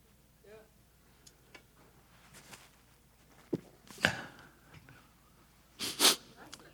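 A loud sneeze bursts out near the end, preceded by a shorter sharp nasal snort and a few quiet sniffs and breaths.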